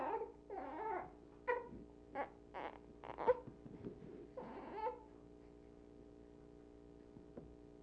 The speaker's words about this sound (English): We don't record those things. We don't record these little whimpers.